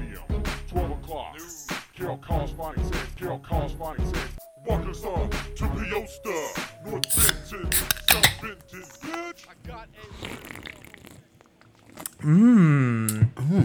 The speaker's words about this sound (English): That, my friends, is the sound of a couple cold, crisp brews being cracked.